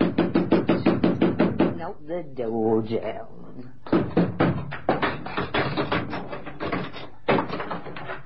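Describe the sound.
Rapid, repeated banging on a door, a quick run of heavy knocks that pauses while a voice calls out with rising and falling pitch, then the pounding resumes in fast bursts.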